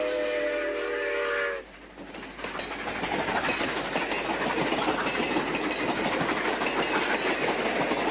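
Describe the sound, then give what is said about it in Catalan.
A train's wheels rumble and clatter steadily and loudly along the rails after a brief whistle-like tone at the start. The train is running on the line past La Baells, Cerf, Fígols de les Mines and Guardiola de Berguedà. No one speaks. “El tren està en marxa i podíem escoltar les rodes, les seves rodes”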